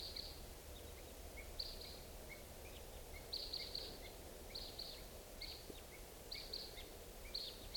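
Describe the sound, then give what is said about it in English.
Red crossbill calls, type 2, from two birds in the morning at about 6:55: short, sharp high-pitched kip notes repeated in loose clusters every second or so, fairly faint over a steady background hiss. “Morning, it's 6:55, and I hear crossbills, type 2s coming around.”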